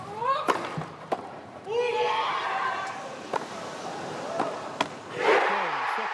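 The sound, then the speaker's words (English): The Wimbledon crowd erupts in applause and cheering just before Andy Murray wins in straight sets against Novak Djokovic, with rising whoops and shouts over a steady roar, punctuated by a few sharp, isolated thwacks. “That's early applause from the crowd yesterday, just before Andy Murray won in straight sets, beating Novak Djokovic.”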